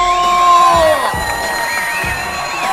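A loud, continuous burst of crowd cheering and applause welcoming the show's host, with high whoops and shouts rising over a dense wash of clapping that holds steady throughout.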